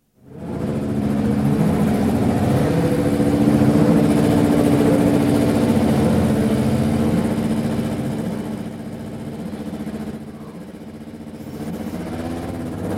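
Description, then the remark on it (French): A Renault racing qualifying engine being tuned runs steadily, a dense harmonic drone that holds for most of the time, then dips slightly and recovers toward the end. Oil temperature is around 100 degrees. No voices. “Mise au point d'un moteur de qualification Renault. Température d'huile aux alentours de 100 degrés, encore très froid donc.”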